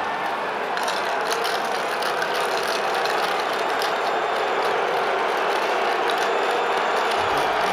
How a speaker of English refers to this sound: Keep booing. Yep. While you guys are doing that, I'm going to enjoy my nice cold beverage.